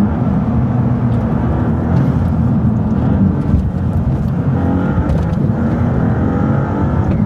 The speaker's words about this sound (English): Loads more turbo whistle, a bit gruntier, less kind of tinny. And even from outside, oh, it's fast as car.